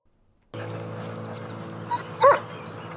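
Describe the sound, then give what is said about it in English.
A German Shepherd lets out a short bark, preceded by a softer yip, over steady outdoor background noise with faint birdsong early on. “another great show, Corner Gas, did an episode around a mistaken belief by Hank that the German Shepherd helping people in Dog River was the titular hobo from television.”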